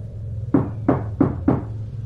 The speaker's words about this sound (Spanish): escuché que tocaban a la puerta